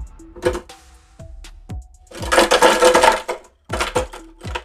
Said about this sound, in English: Today we're going to be using frozen strawberries and frozen mangoes, along with, like always, lime. So, in your blender, put your strawberries.